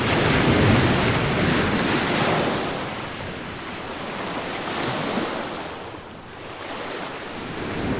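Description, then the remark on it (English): Ocean waves break on a shore in a steady roar of surf that swells and eases, with some wind noise and no voices. “Julia ran to the edge of the ocean.”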